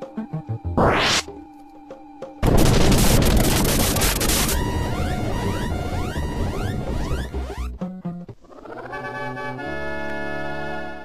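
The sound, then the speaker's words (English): A large bottle rocket firework: a rising whoosh shoots upward, then a loud, sudden blast bursts out with a long crackling rumble, tangled with jangling musical tones before fading into a steady electronic hum. “Well, you know those little bottle rockets you can buy at fireworks stores? Well, this was pretty much a large version of one of those.”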